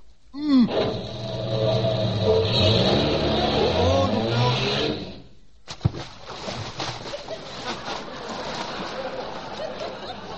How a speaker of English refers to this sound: Well, now you aim the car for the front of the ramp and give her the gas.